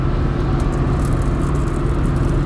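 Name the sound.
car driving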